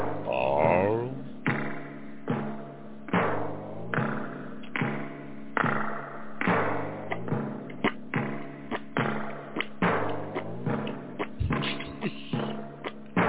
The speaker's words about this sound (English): A squeaky boot there, girl. There we go.